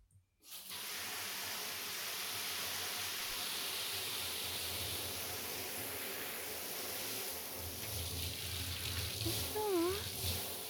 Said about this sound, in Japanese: 最後はシャワーで綺麗にするね。